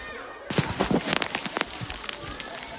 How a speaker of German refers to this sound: Oh, ich stehe hier gerade mitten im Wald. Vielleicht regnet. Es kommt sogar ein bisschen Hagelschauer runter.